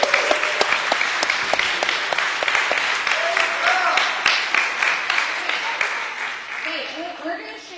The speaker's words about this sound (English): But let's give these kids one more round of applause.